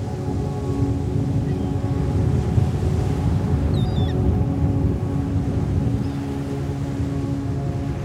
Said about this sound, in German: Kräftige Wellen schmettern gut hörbar gegen harsche Felsen, wenige Meter von uns entfernt. Das Knistern der Wogen, das Knirschen der Steine ist uns nur allzu gut bekannt.